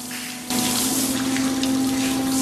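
water running

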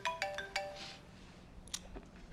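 mobile phone ringing

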